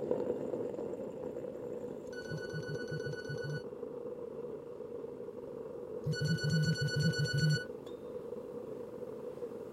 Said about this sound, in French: Le téléphone ne l'a pas réveillée tout de suite. Quand elle a ouvert les yeux, le téléphone s'est tu.